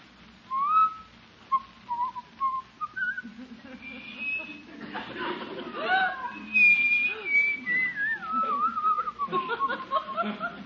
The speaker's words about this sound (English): You just going to sit there and whistle all night? Whistle? Oh, no, no, no.